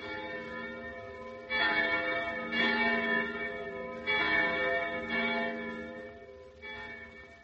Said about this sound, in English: The sounds of those church bells make me feel like praying.